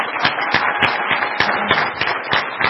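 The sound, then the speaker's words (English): A crowd applauds steadily for a few seconds, many hands clapping in a dense, continuous wash with a few sharper claps standing out, fairly loud. “So can you first off give him a round of applause for that?”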